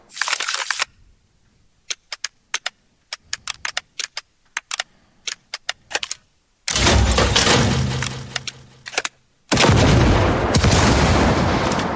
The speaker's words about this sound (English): These, of course, need to also be interacting with the effects of the cards themselves, the shooting and the explosions and things like that. So again, dynamic mix comes into mind. Let's take a look at just the card interaction effects.